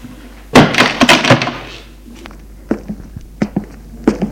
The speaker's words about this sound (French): Il referme la porte.